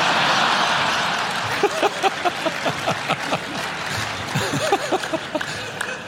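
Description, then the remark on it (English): An audience breaks into applause, with the men in the audience clapping: steady clapping from a crowd rises over a constant murmur, with sharp individual claps standing out in an irregular rhythm. “All the men are clapping.”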